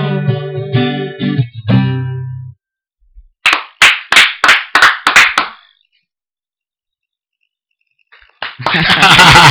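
About seven sharp, loud hand claps in a quick, steady rhythm, following a short burst of tonal electronic sound, then silence before a rush of noise.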